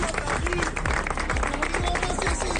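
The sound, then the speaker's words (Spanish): Steady crowd applause from supporters of Carlos Mazón, president of the Generalitat Valenciana, during his visit to Castellón, dense rapid clapping at an even loudness throughout, with a murmur of voices and occasional shouts mixed into the noise. “Hoy el presidente de la Generalitat, Carlos Mazón, visitando Gallatas, los abucheos son en castellón y encuentran también respuesta entre los que sí le apoyan, aplausos.”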